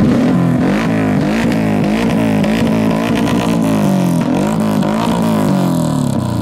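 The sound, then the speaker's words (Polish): Loud motorcycle engines rev continuously at a motorcycle rally in the Sieradz area of Poland in fine weather, their pitch repeatedly climbing and dropping as several overlapping motors roar together, with no voices audible over the noise. “Jest teraz moda na motocykle, zresztą widać to tutaj na tym zlocie.”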